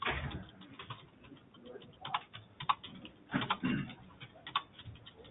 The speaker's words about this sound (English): If I ever go silent, it's just typing out your notes, okay?